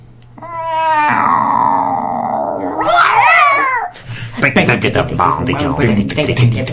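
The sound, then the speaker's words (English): A cat being petted lets out a long, loud, drawn-out growling yowl that breaks into a harsh snarl as it attacks, grabbing an arm and kicking it, followed by a few seconds of noisy, agitated sounds. “You pet a cat. And it attacked me.”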